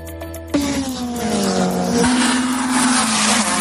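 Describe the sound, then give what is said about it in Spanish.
Loud car engines roar and rev at high speed in an illegal street race on the GC1 motorway in southern Gran Canaria, a sharp burst of acceleration kicking in, then a sustained whining drone as the cars race by with no talking. “Así sonaban los motores de los coches de esas carreras ilegales que la Guardia Civil y la policía local han parado en seco.”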